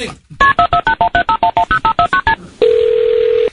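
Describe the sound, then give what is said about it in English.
A telephone keypad dialing 911 to call the police: a quick, even run of about fourteen clear beeping tones, each a two-pitch chirp, followed by a loud, steady tone that holds for about a second. “911, what's your emergency?”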